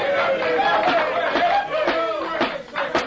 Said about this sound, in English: I sincerely hope that applause was not meant for me.